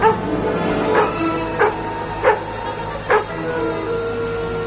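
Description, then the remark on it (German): A small three-legged dog lets out four short, sharp yips spaced about a second apart, with soft whimpering in between, over a steady background hum. “Zu dem kleinen, dreibeinigen Hund.”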